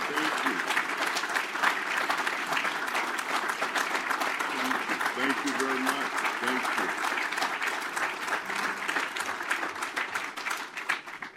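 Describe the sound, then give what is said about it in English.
Sustained audience applause as a standing ovation, a dense, steady roar of many hands clapping for over ten seconds with a faint cheer or murmur of voices mixed in, holding loud throughout before easing slightly at the end. “Let's everybody give him a round of applause.”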